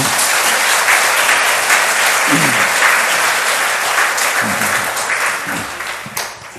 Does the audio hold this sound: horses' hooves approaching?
no